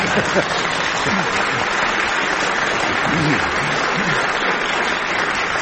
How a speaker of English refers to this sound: Well, here's our fine and distinguished audience, which applauded Frank for guessing … and didn't applaud that answer.